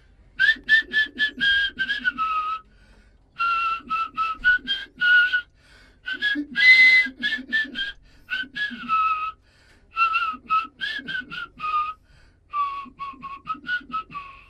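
Someone whistles a song melody up close and clearly, in several phrases of quick, bright notes separated by short pauses, with no talking.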